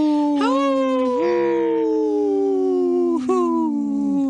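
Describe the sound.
Two voices imitate wolf howls together as a duet on a radio show, holding long, loud howls that rise and fall in pitch with a couple of upward swoops, filling about four seconds without words.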